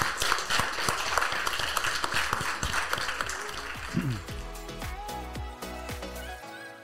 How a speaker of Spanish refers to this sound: ¡Aplausos!